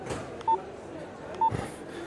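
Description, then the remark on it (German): A mobile phone's SMS text message alert: two short, clear electronic beeps about a second apart, heard over a low, steady background murmur. “Hey, du hast Post. Muss dein Handy sein. Klingt nach einer SMS.”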